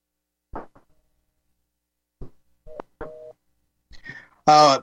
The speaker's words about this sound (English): Not having a way to get through by phone. I'm not getting an answer. I got a busy signal.